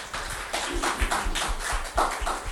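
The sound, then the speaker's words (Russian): A crowd of people claps steadily in applause for the young people, a dense patter of overlapping hand claps with occasional louder bursts, sustained throughout without any talking. “Да, давайте просто поаплодируем.”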